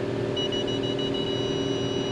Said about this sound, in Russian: А что это бибикает? Это они близко подъезжают к тебе, или машина? А, машина бибикает, я понял.